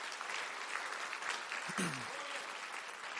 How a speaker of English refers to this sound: Would anybody like that? If you would like that, clap your hands and say, yes, Lord.